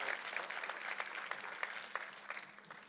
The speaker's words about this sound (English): Can you give them a hand clap as they're going to be leaving us?